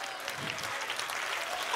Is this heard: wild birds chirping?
no